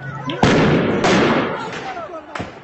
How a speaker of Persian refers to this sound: گزارش‌ها و تصاویر منتشر شده نشان می‌دهد که نیروهای حکومتی اقدام به شلیک گلوله جنگی به سمت معترضان کردند.